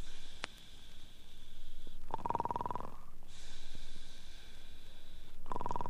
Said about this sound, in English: Somebody snores.